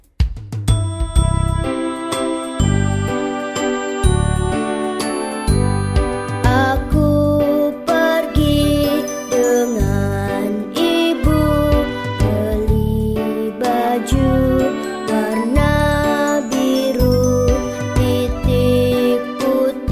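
A bright, bouncy children's song, replayed for children to learn it, with chiming, bell-like melody over a steady thumping beat, continuous and fairly loud throughout, with no voices talking over it.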